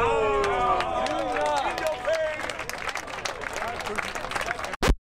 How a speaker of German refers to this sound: Und dafür kriegt er einen Applaus.